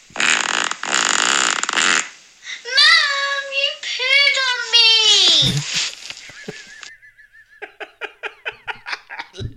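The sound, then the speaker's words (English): A sneeze and a fart: a harsh breathy burst, squeaky whining tones, then a low blast that sputters into a quick run of short, popping bursts. “A sneeze and a fart.”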